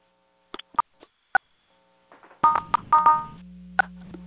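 Short electronic keypad beeps from phones as callers in a virtual meeting press *6 to self-mute, a few scattered single tones followed by a denser cluster of overlapping presses, then a low steady hum near the end. No one speaks.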